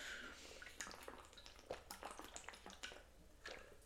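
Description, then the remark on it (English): Quiet sipping of water: a few soft slurps and small wet clicks and swallows spread over a few seconds, with no talking. “I'm just going to take a sip of water.”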